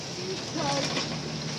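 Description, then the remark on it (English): Heavy rain with big drops pours down in a steady, dense hiss, with no single drops standing out. A low, continuous rumble of a slowly moving vehicle runs underneath the whole time. “Okay, here is some more rain if you can hear it.”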